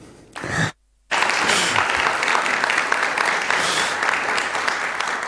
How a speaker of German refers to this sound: Ja, Applaus.